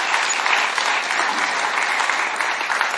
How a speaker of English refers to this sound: In fact, why don't we just give LCF a big clap for all the generosity that people do?